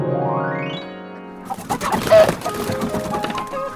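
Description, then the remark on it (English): A rising musical tone gives way to a busy flurry of chickens on a chicken farm clucking and chattering, overlapping calls without any speech. “I do love it here on my chicken farm. Now, how are we today, my chickens?”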